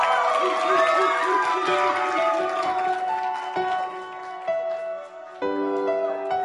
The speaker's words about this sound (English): Why didn't they cheer for my wife?